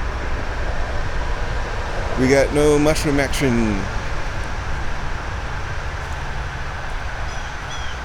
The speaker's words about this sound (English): Other than traffic noise, we've got not a lot. Traffic noise and wind. Got wind blowing the leaves out of the trees.